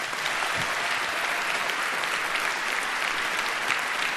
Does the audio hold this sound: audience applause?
yes